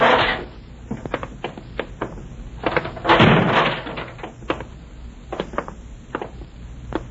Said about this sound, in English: In here. Through this fire door.